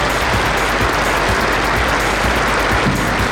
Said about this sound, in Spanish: Nuestro más sentido pésame. Y vamos a pedir, por favor, 1 minuto de aplausos.